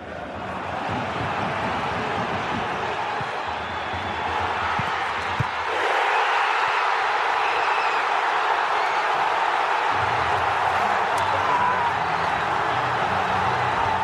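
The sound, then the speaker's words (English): The Saarbrücken football stadium crowd cheers after Marcel Gauss's 90+6 minute winning goal, a loud, dense, unbroken roar that swells slightly midway and holds steady to the end, with no commentary over it. “Now, this is the audio sans commentary, just so you can breathe in that full Saarbrücken crowd.”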